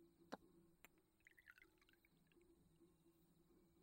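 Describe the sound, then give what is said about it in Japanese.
A small cup clinks once or twice, then Japanese sake is poured into it by the drinker for themself in a brief, gentle gurgling trickle that fades out, with a quiet hush underneath. “うん、私は手酌で。ありがとう旦那様。 とと。”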